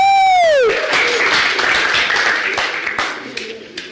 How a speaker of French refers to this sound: C'est toi qui as gagné. Le champion. On l'applaudit maintenant.